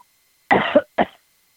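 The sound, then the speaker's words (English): Two harsh, raspy coughs from a lingering leftover cold, in quick succession, the first longer with a rough double burst, the second short and clipped, loud against silence with no talking. “What you're listening to is the leftover cold that is swamping at least California.”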